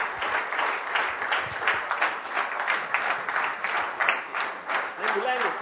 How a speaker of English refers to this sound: So all the sevadaris can come in the front. So let's welcome them with a big clap. All the sevadaris, please come in the front.